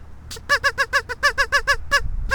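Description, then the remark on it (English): A duck call blown in a rapid run of about ten loud, nasal quacking blasts, evenly spaced with a brief pause before the last one, and no talking, made at ducks by a boardwalk. “That's my duck call.”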